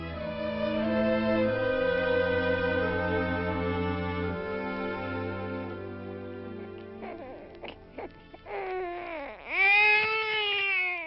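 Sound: newborn baby crying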